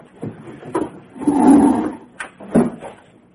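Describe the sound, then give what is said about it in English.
A right-hand drawer holding a flashlight and a bottle opener slides open with a rumbling, wooden scrape, framed by a few sharp knocks and rattles, fairly loud with no talking. “It's in the right-hand drawer next to the bottle opener.”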